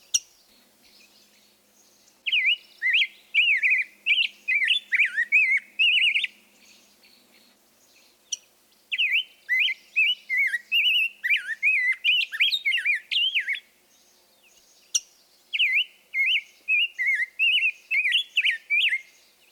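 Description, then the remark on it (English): A rose-breasted grosbeak sings three bouts of rich, warbling phrases, loud, with a few sharp metallic chink call notes between them. No voices are heard. “Listen for this call note interspersed with a melodious song.”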